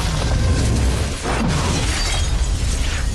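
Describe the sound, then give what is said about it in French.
Gigantic nuclear explosions from a world war in the early 1960s, opening the series Fallout, roar in a continuous wall of deep rumbling and crackling debris noise, briefly dipping before surging on at full loudness, with no voices. “On est au début des années 60 et une guerre mondiale provoque de gigantesques explosions nucléaires.”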